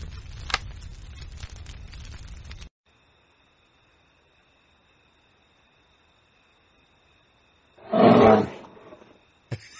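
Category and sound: animal, lion roaring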